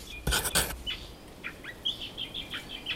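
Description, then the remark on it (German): Small finches on Floreana Island in the Galapagos call in a quick series of short, high chirps, moderately faint, after a brief burst of fluttering or rustling at the start. No one speaks. “Auch er ist auf Floreana hinter den kleinen Finken her.”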